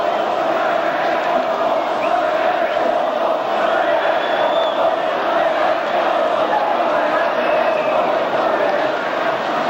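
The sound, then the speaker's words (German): A large crowd of hundreds of East German (GDR) citizens chants the name of the newly founded opposition group Neues Forum, a loud, dense wall of many voices that carries on steadily for the whole clip without a clear break. “Sie sind plötzlich da und skandieren den Namen der neu gegründeten Oppositionsgruppe Neues Forum.”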